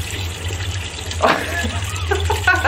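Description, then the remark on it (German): Water runs steadily into a watering can, a continuous splashing rush over a low hum, with a few brief gurgling tones as it fills. “Dann drehe ich mich erstmal um und fülle die Gießkanne.”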